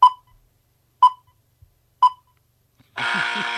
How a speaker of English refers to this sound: And I'll start the buzzer as soon as I finish the question.